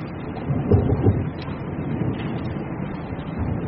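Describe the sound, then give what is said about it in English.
Gunfire rolls in as a low, continuous thunder-like rumble, with a couple of heavier muffled booms near the start, then a steady murmur fading into the background. “Rain on the way. Oh, gunfire.”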